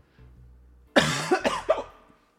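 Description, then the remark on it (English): A sudden cough bursts out, followed by two shorter catching, hiccup-like gasps in quick succession, after a moment of faint low hum. No one speaks. “I don't know if that picked up on the mic, but I coughed and hiccuped.”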